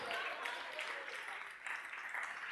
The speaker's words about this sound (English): And the prize is you've just received a round of applause. Well done.